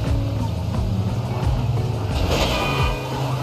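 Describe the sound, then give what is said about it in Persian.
A Paykan car drives along with a loud, steady engine drone, its pitch shifting slightly as it moves, accompanied by road and wind noise. “من تا حالا با پیکان رانندگی نکرده بودم بچا، بعد این ترمز و ایناش از دستم در میره.”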